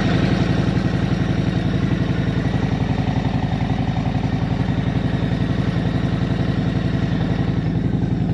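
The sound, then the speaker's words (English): A motorcycle with newly fitted handlebars idles steadily before the rider heads out to work, a low, even, rapid chugging pulse with a rattly mechanical clatter on top, holding constant volume throughout with no voices. “First time riding with the new bars. I'm gonna head out to work right now.”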